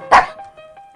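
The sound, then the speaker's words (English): A single sharp dog bark, the show's 'sound hound', rings out loud, then fades into a faint lingering tone and near silence. No one speaks. “The dog days may have ended this week, but fortunately, the sound hound is always here with us.”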